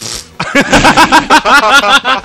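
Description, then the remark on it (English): A voice imitates a fart with a loud series of about eight short sputtering bursts in quick rhythm, after a brief hiss at the start. “We made a fart.”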